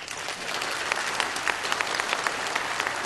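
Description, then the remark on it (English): An audience claps steadily to vote for which claim they think is fiction, a dense wash of many overlapping hand claps with scattered sharper individual claps standing out, sustained at an even level throughout. “So if you think that the single neuron that could render a person unconscious is fiction, applaud.”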